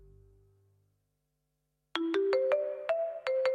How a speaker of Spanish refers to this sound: seguir poniendo el clink clink de la caja registradora porque, en fin, nos siguen quitando dinero por otras cuestiones.